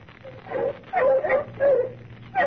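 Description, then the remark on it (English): Several bloodhounds bay and whimper in a series of drawn-out, wavering howls, moderately loud, with brief gaps between the cries and a low rumble underneath, while following a trail through dark woods at night. “What's the matter with the dogs, Captain? Why are they stopping?”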